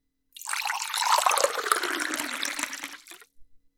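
Water runs steadily into an empty water bottle being refilled for about three seconds, a bright, hissing gush that slowly shifts in pitch as it fills, then cuts off with a couple of faint drips.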